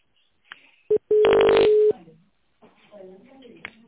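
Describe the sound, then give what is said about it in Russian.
A short telephone keypad beep is followed by a longer, loud steady keypad tone lasting under a second, pressed in the automated phone menu of the Abrikos group of companies. Then the line goes quiet and a person begins talking. “Чтобы связаться с «Абрикос» проектом, нажмите 1.”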